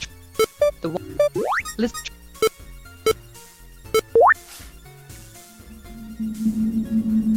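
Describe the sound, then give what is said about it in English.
Three electronic video game beeps ring out among quick blips and a couple of rising synth sweeps, followed by a steady low buzzing tone. No one speaks. “Okay, so 3 beeps.”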